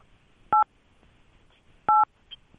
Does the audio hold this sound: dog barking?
no